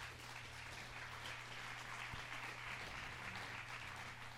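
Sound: audience applause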